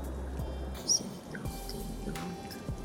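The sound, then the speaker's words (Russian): Rain dripping in irregular, scattered drops, with a few brighter plinks over a steady, soft wash of wet background noise. No one speaks. “До сих пор, как в замедленной съемке из детских сюжетов, проползают их очертания, напоминая о своем вечном существовании, и вместе с шумом дождя доносится их пугающий смех.”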